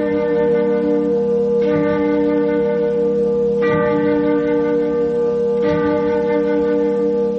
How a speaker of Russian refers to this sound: Она быстро рассеивается от колокольного звона лавры. Там лаврские часы целотонную гамму исполняют.